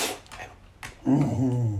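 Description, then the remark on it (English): A dog named Kane, cared for by Chazco of Brooklyn, New York, snorts and huffs in a few short, breathy bursts, then lets out a longer, louder throaty whine-like sound. “Chazco takes care of cats and dogs like this one.”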